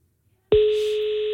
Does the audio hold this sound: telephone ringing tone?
yes